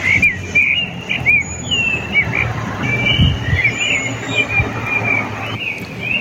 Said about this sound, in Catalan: És un ocell. És un pardalet. Bueno, tots coincidim, no?, en identificar el cant d'un ocell, però de quin ocell es tracta? Quin significat té ese cant de ritme repetitiu?